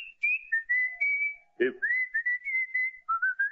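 Someone whistles a melody in clear, sustained notes that step up and down, with a brief thump or rustle midway and short pauses between phrases, close and fairly loud.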